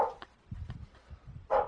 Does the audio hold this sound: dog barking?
yes